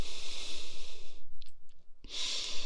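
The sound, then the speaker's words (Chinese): Someone sniffs in hard through the nose twice at a foot held under their nose, each a long, airy, hissing inhale, with a short quiet pause and a few faint clicks between them. No one speaks. “对，吸鼻子”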